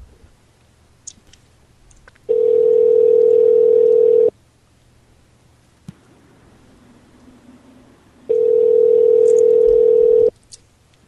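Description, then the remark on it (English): A phone ringback tone sounds twice, each steady electronic burst lasting about two seconds with a long silent gap between, as an outgoing call rings unanswered. Faint clicks in the background. “I'm going to call the one that you called, Dark Stranger, and I'm going to talk to her.”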